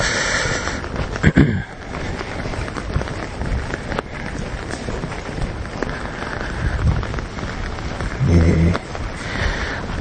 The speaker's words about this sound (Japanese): 15日、仕事帰り、雨です。ちょっとマイクの感度上げますね。はい、これでなんとか。雨に、傘に雨が当たる音が